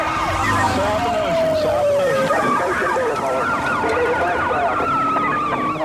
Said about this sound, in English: The officer keeps his distance, hoping his siren will warn other drivers.